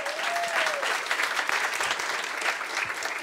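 An audience claps steadily for a few seconds, a dense, continuous patter of many hands that holds at an even level throughout, with a faint high whistle-like tone briefly at the start.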